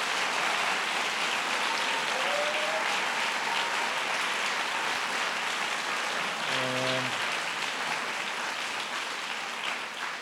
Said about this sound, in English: So I want to give all those educators, counselors, and community members a big round of applause for the support that you're giving to our students.